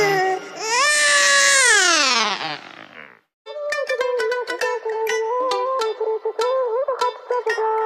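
A baby cries loudly, starting with one long sustained wail whose pitch rises and then falls. After a brief pause come choppy, broken sobs with quick catches of breath.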